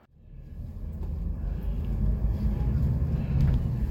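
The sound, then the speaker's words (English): A replacement bus service rumbles into motion, leaving on time: a deep, steady low engine drone swells quickly from near silence and then holds at a strong, even level as the vehicle gets underway. “Well, we are actually leaving on the replacement bus service, absolutely smack on time,”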